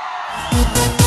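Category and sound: crowd, audience screaming and cheering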